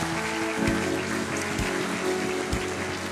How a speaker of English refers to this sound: Let's give him another hand clap of praise today.